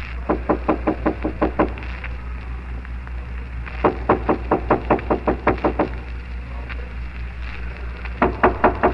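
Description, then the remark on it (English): Repeated sharp knocks on a door come in three quick bursts of rapid raps, with short pauses between them, over a steady low background hum. “there's somebody knocking.”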